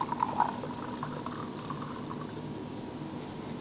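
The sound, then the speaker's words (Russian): Half a glass of vinegar pours into a glass of water with a steady, bubbling gurgle that holds at an even level. A few brighter splashy blips come at the start, then the hissy wash runs on without speech. “Потом туда же мы отправляем половину стакана уксуса.”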